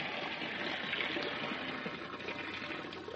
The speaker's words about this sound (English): I think that's enough water now, don't you? Well, still, I put a little more in